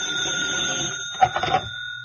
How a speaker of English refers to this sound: When I woke up, the telephone had been ringing for a long time. It was past noon. That horrible, insistent bell beat its way into my consciousness.